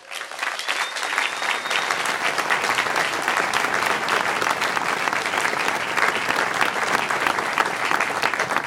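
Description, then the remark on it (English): A large audience at a 2010 student orientation in Ithaca claps steadily for more than 600 orientation volunteers, a dense, even wash of applause that holds at full strength throughout, with no voices standing out above it. “I hope the move-in process went well, and would like for you to join us in giving a warm round of applause to more than 600 orientation volunteers.”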